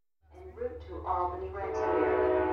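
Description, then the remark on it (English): A train rumbles past with a low, steady roar as its horn sounds in sustained tonal blasts, rising in loudness, during a 2.5-hour train ride upstate. “A 2.5-hour train ride later, we're at a library upstate.”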